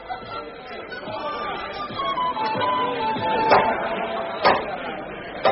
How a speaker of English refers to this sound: From a great hall shone many lights, and there came the sound of many voices.